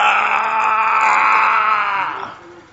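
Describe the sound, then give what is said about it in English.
A voice imitates a roar with a long, loud, strained yell that holds steady for over two seconds, harsh and piercing, before fading out at the end. “And then he roared.”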